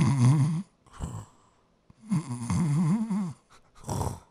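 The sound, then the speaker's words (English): A person imitates snoring with raspy, wavering vocal snores, two longer drawn-out ones and a couple of short snorts, fairly loud with brief pauses between. “That was too good of a snore.”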